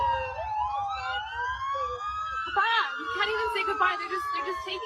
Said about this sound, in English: Listen to the sirens. Yeah they got the sirens in the background.